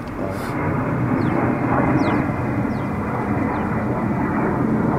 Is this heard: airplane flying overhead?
yes